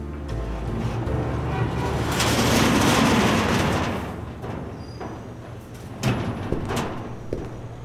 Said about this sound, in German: Sie schien dicht verrammelt zu sein, doch ich probierte es trotzdem an der großen Tür. Sie klemmte, war aber nicht verschlossen. Ich schob sie auf.